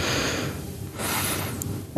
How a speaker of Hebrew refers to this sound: מה, שומעים כל נשימה, זה עזוי.